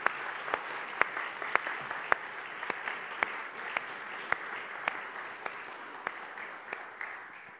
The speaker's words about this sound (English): So maybe we could just give them a huge sign of our appreciation. This big round of applause for all those leaders. Thank you.